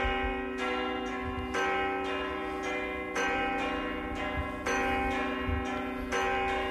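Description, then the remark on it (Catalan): Church bells ring out in a steady, repeating pattern to call for help as a storm approaches, strikes arriving roughly every second and a half with long shimmering overtones that blend into a continuous resonant wash. “Són per demanar ajuda per l'arribada d'un temporal.”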